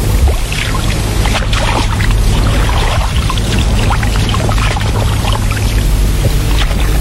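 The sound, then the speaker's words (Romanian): Steady splashing and rushing water runs throughout, with a constant low rumble underneath, as a boatman ferries a passenger across a river to the other bank. No one speaks. “Am luat-o spre locul de trecere și lundrașul m-a dus pe celălalt mal.”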